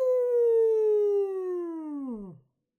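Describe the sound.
A person imitates a wolf howling at the moon while explaining the word 'wolf', one long sustained voiced note that slowly slides downward in pitch before dropping off sharply at the end, fairly loud.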